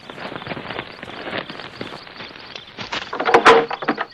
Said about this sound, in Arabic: افتح الباب له. نعم نعم نعم، نعم سأفتح الباب. نعم سأفتح.